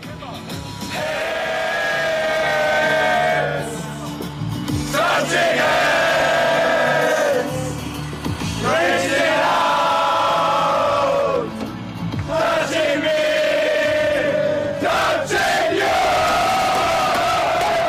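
A large crowd of Austrian football fans, celebrating their team's surprise group win over France, the Netherlands and Poland, chants loudly in unison, voices rising and falling in long repeated sung phrases with brief breaks between them, sustained and boisterous throughout.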